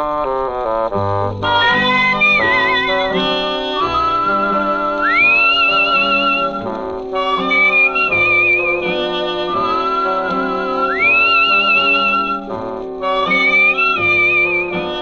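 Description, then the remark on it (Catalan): A jaunty melody is whistled with sliding, swooping notes over a full, steady instrumental accompaniment that plays throughout without any talking: the opening theme of the 1957 detective series Richard Diamond, Private Detective, whistled by its star Dick Powell. “Una sèrie que començava amb aquesta melodia xiulada per Dick Powell, el seu protagonista.”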